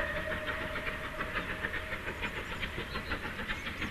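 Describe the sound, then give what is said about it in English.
A train clatters steadily along the rails, a continuous rhythmic clickety-clack with a faint sustained whistle-like tone running through it, with no voices. “Once upon a time there was a train.”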